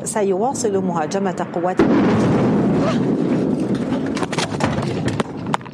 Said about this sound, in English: An Israeli airstrike hit the Syrian Ministry of Defense in Damascus today, not far from the studio.